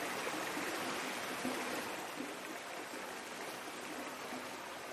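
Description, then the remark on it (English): A crystal-clear mountain stream in Harriepool ripples and babbles steadily, a continuous bright rush of flowing water with no voices or other sounds. “It's a lovely mountain stream in Harriepool. Crystal clear water.”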